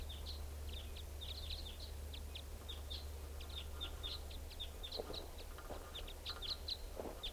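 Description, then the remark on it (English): Repeated short, high chips from crossbills giving type 5 flight calls, scattered in quick bursts throughout over a steady low rumble of background noise. “Well, the recording sounds like the type 5s are coming back. Or else it's flying over.”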